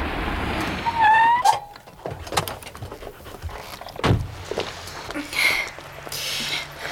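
A car idles and comes to a stop as it is parked in a side street, followed by a few sharp door clunks and small squeaks as people climb out, with faint movement and rustling.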